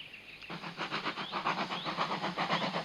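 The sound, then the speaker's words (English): A steam train chuffs along steadily through sunny countryside, its rhythmic puffs repeating about every quarter second, loud, with a faint whistle-like tone near the start and no voices. “A steam train puffs through sunny countryside.”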